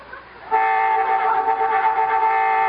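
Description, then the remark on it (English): A loud horn blares in one long, steady blast that starts abruptly after a brief quiet moment and holds to the end, with no talking over it. “Boy, I hate honking during smooching.”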